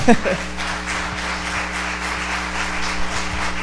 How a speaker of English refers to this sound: I mean, we celebrated 6 people coming to the Lord this morning. That is worth clapping for one more time.